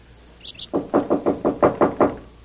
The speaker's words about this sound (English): I look out the window across the pool. Sure enough, this guy is on the balcony in front of 2A, banging on the door.